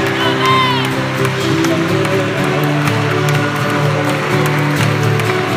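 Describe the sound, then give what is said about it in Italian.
An audience in a basilica breaks into sustained applause for the Holy Spirit, mixed with cheering and scattered shouts, a dense, steady wash of clapping over a low hum of crowd voices. “facciamo un applauso allo Spirito Santo che è passato sulla sua chiesa.”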